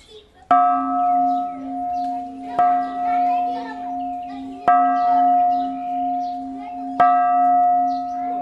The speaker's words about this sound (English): At the enormous Shwedagon Pagoda in Yangon, tourists ring the bells as a purification ritual.